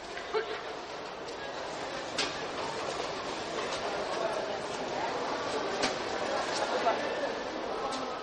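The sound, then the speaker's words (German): Busy railway station ambience in Berlin: a steady broad rumble of a train rolling through, with scattered metallic clicks and clacks and faint voices murmuring in the background. “Gehen wir durch das Gebäude quer hindurch auf die Nordseite des Bahnhofs.”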